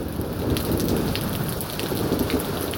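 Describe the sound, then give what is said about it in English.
Steady, heavy rain from a storm pattering on a porch, a dense continuous hiss with scattered individual drop impacts and a low rumbling undertone throughout. “But what's good is it seems like the lightning part of the storm has moved on while the rain part of the storm has come in.”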